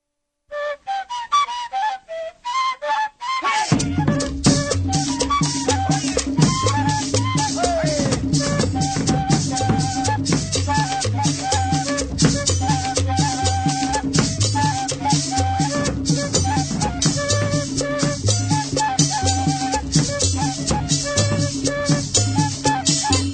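Colombian gaita folk music: a lone breathy, whistling flute melody opens for a few seconds, then drums and shakers burst in with a steady, driving rhythm beneath winding high flute lines.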